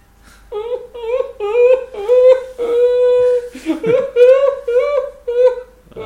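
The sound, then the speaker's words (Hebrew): A person records their own exaggerated fake cry, a run of high, wavering whimpers and drawn-out wails broken into short sobbing bursts, loud. “לא, אם כבר בעריכה אני מקליט את הבכי האלוף של עצמי ואני מעריך אותו פי 10.”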